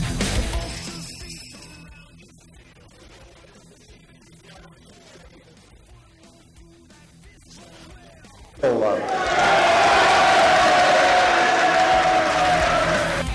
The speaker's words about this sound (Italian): sentiamo l'esultanza, questo, sentiamo l'esultanza dell'aula. Sentiamo l'esultanza dell'aula.